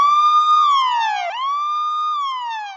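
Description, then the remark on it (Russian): A police siren wails loudly, its pitch gliding down and then sweeping back up in two slow, repeating cycles with no voices present. “Челяба, я погнал спать, выключай сирену.”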